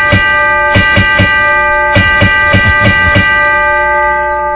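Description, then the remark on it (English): A bell is rung on a radio show, over and over in quick, uneven clusters of strikes, each clang adding to a bright, sustained metallic tone that hums steadily underneath. Fairly loud, with no voices. “Are you ringing it for the reason I think it is?”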